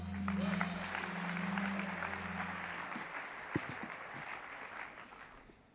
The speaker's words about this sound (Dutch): Geef ze een applaus.